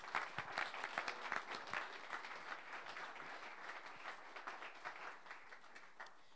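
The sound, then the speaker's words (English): A crowd breaks into sustained applause for God during a sermon, many hands clapping in a dense, steady patter that stays fairly even in loudness for several seconds with no voices standing out. “Please, can you clap for him?”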